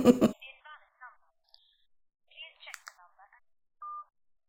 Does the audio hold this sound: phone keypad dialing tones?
yes